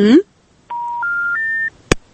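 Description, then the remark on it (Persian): A caller's phone line drops: a brief voice fragment cuts off, then three steady electronic tones step upward in pitch, followed by a sharp click. “خب تلفن دوست ما قطع شد”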